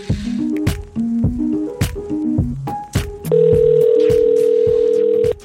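A quick run of touch-tone dialing beeps, clear, gives way to a steady telephone tone held for about two seconds as someone phones family. No one speaks.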